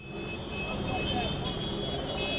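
Dense street traffic from a taxi driver protest against Uber in London, causing gridlock: a steady, loud wash of engine rumble and crowd murmur, with sustained high horn tones blaring continuously over it.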